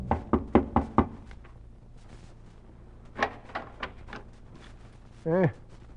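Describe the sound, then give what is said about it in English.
A woman knocks five quick, sharp raps on the wooden door of a cabin in a cluster of cabins in the little town of Malden, followed by quiet shuffling and a few softer thumps, then a brief voiced sound near the end. “The pair traveled many miles through the mountains and woods and came to the little town called Malden, made their way to a cluster of cabins, and at the door of one, the woman knocked.”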